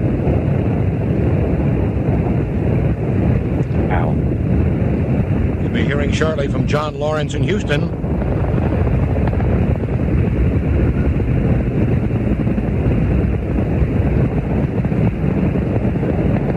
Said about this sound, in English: Challenger seems to shake herself free of the ice and goes. All 5 rocket engines burning well. The first teacher, Krista McAuliffe, on her way to space with 6 other astronauts on board.